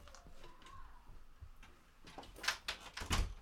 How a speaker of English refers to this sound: Yeah, don't worry. I'm going to shut the door.